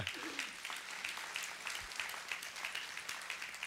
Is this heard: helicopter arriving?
no